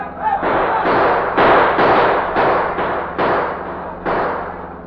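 A rapid string of about eight sharp, loud gunshots as police coming out of headquarters fire at a passing car, each burst ringing out over a steady low engine drone.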